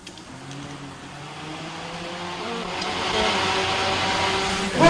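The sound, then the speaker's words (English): A car's radiator cooling fan whirs steadily, running with the engine off, its airy rushing hum growing gradually louder and more hissing over a few seconds, with a faint low mechanical drone underneath. “The fan that cools the radiator off, the engine off, in the car.”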